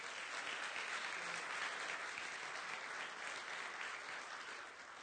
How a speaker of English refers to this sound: Give the Lord a hand clap in here, would you?